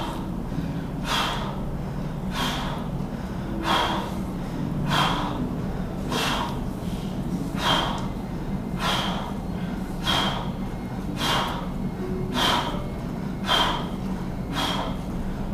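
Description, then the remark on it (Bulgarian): Rapid, rhythmic breathing exercise of deep inhales expanding the lungs and a dozen sharp, forceful exhales spaced about a second apart, each a loud airy rush, over a steady low hum with no talking. “Дълбоко вдишване с разширение с диапазон на белите дробове, рязко издишване.”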